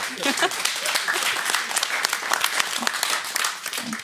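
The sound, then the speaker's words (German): An audience applauds steadily for about four seconds, a dense wash of many hands clapping at once, fairly loud and sustained with no voices standing out. “Ist eigentlich traurig, dass man dafür Applaus kriegt, ne?”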